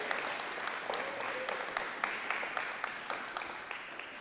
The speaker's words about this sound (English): So I just wanted to give a kind of a round of applause to those who are involved in setting up on Sunday mornings to make us have our worship experience.